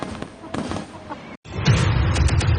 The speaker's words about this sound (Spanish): Por supuesto, un espectáculo inigualable de fuegos artificiales.